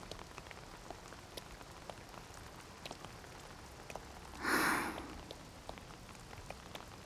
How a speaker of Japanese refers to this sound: ますます強くなってきたね。雨は嫌いではないけれど、年の瀬くらい晴れてくれてもいいのにね。